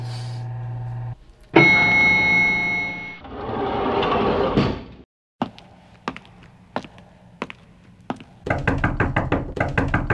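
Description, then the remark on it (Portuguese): After riding the elevator up, a man knocks on an apartment door, first with several sharp, spaced raps, then a rapid, insistent burst of knocking. Before it come a humming tone and mechanical noise. “Maria, abre, Maria. Sou eu.”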